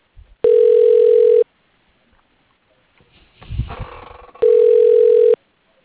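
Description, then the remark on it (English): A phone line rings twice while a call is put through to an extension before voicemail picks up: two loud, steady one-second ringback tones separated by a few seconds of quiet, with a brief muffled rustle and clicks in the gap. “I'm gonna have another voicemail.”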